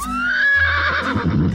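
A Béarn pony aged 12 or 14 years, with a yellow coat and no hair on its tail, gives one loud whinny, a quavering high-pitched neigh lasting just over a second that trails off into rough breathy snorting, with no voices around it.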